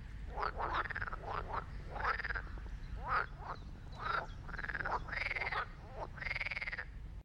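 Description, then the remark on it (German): Frogs croak repeatedly at a pond in a village wetland biotope, a steady series of rasping, bubbling calls about once a second over a constant low background hum, moderately loud, with no voices. “Hier trifft man die unterschiedlichsten Tiere, wie zum Beispiel Fische, Frösche, Wildenten und seit diesem Frühjahr auch einen Biber.”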